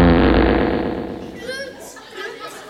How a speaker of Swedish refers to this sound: Vem var det som puttade? Var det du som puttade? Nej. Vad var det för ljud då? En prutt. Ja, men det var en prutt ju.